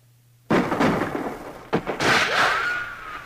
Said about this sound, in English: I also like the gunshot sound in here.